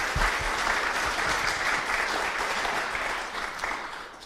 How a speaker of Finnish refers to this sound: Eiköhän anneta aplodit näille herroille.